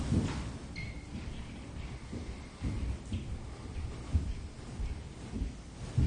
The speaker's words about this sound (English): We don't have to do anything with the sound of the footsteps and the ceiling above us. It's part of the field of our own body and awareness.